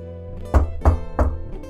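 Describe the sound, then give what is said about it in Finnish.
Three evenly spaced, dull knocks on the closed door of a restaurant's break room, each a heavy low thud, followed by a fainter fourth tap, with no voices. “Kuntsi koputti suljettuna olevaan oveen.”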